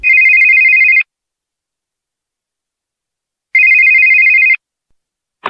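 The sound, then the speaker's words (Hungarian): A telephone rings twice at home shortly after midnight, each ring a steady electronic trill lasting about a second with a long silent gap between, loud, followed by a brief click at the end. “Kevéssel éjfél után aztán hazaértem, és megcsörrent a telefon.”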